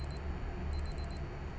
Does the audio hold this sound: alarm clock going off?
yes